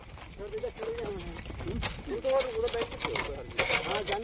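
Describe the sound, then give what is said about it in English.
Steady clopping hoofbeats and wooden knocks from a caravan of bullock carts rolling along a highway near Bokaro, India, at midnight, with voices calling over the rhythmic clatter and a creaking, uneven rumble throughout. “I thought of that caravan, of those bullock carts, a few nights later, when I joined a train.”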